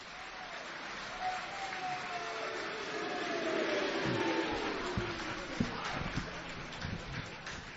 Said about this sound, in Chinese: 谢谢，谢谢各位给我一个人的掌声。 我就听这句别扭，上来俩人嘛，怎么一个人的掌声？